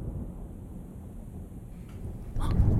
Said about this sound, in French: Il va y avoir l'orage. C'est l'orage. Alors, j'ai entendu un grondement qui correspond peut-être à une voiture qui passe aussi. Mais j'ai vu l'éclair.